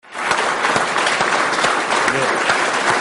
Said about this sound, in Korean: 지난 9월 24일 탐사선이 화성 궤도에 오르자 인도 우주연구기구 소속 과학자들이 환호성을 터뜨리고 악수를 합니다. 이날 환호성을 지르기 전에 인도 우주연구기구 관계자들은 인도 벵갈루루에 있는 통제소에서 1시간 동안 긴장한 상태로 탐사선을 지켜봤습니다.